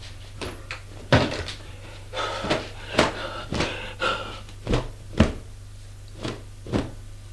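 Wardrobe closet doors are opened and handled, producing a series of sharp wooden knocks and rattling clacks at irregular intervals over a faint steady hum, with no voices.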